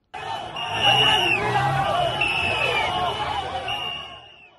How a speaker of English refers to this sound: Hundreds of fans applaud in Yaoundé as the national women's volleyball team of Kenya lifts gold for the 10th time as women's African volleyball champions. Kenya thrashed Egypt 3-0 to lift the trophy.